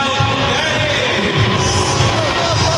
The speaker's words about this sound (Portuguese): Sonoras vaias.